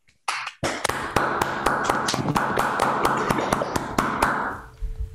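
A round of applause over a video call: several people clapping at once, a dense, steady patter of sharp claps lasting about four seconds before thinning out and stopping.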